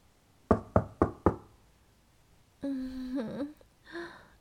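Four sharp, evenly spaced knocks on a door ring out loud in quick succession late at night, followed after a short pause by a brief voiced call.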